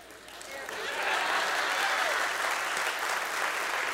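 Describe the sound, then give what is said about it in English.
Applause from a church audience swells within the first second into a steady, dense wash of clapping that holds at an even level for several seconds, in response to a statement about the Trinity. “Thank you for clapping.”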